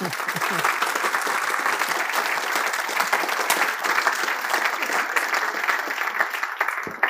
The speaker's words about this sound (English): You're applauding me before I've even opened my mouth, which is a little risky.